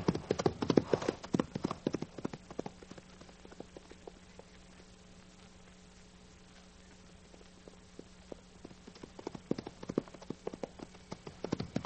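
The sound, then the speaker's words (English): Rapid hoofbeats of a ridden horse galloping pound loudly at first, fade to a softer, steady clatter in the middle, then swell again into heavy, quick thuds toward the end. “Now get riding.”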